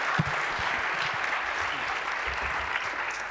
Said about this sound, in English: Please welcome him with a huge round of warm applause, and the stage is yours.